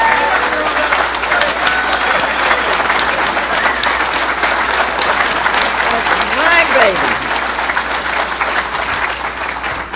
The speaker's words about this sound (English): I want her to stand up. I want you to give her the greatest round of applause.